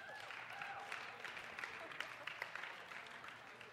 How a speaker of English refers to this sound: Everyone clap for her.